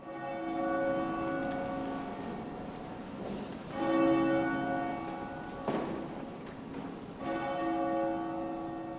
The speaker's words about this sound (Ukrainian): Усі стояли спокійно, оскільки церковні дзвони дзвонили 15 разів, відмічаючи кожен рік починаючи з часу нападів.